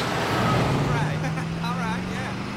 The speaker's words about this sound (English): He spots a green car driving towards him. A metal beast.